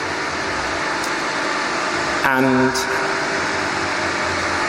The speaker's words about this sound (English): sorry, there's a pump truck out there, which is quite disturbing to me.